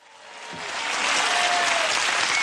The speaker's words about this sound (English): A spontaneous round of applause for one of the most popular leaders this country's ever had. I'm sure you agree.